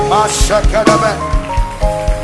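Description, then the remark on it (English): A church audience claps their hands in a steady, rhythmic beat, roughly every quarter second, while voices sing or call out over the clapping, clapping as they pray that God will use the professor to build the church. “I want you to clap your hands, Professor, that God is going to use you to build the church.”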